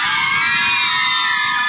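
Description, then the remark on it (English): A live audience at a Harry Potter event yells and screams together in one loud, sustained burst of high-pitched cheering that fills the whole moment without letting up. “Oh, no one's going to yell for that. I like screaming.”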